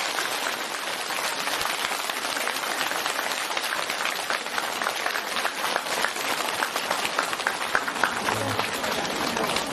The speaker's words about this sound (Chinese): 所以虽然今天上午才刚刚抵达香港，但卢台长还是不辞辛苦地准备了和大家见面。现在让我们用最热烈的掌声恭喜我们尊敬的卢军宏台长。